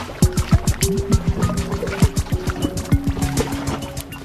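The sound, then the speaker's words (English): A dense series of meltwater drips from a glacier in Antarctica, plinking and plopping in quick, uneven succession into pooled water, each with a short hollow ring. “The creaking of glaciers and the drip of glaciers and the music of the wind.”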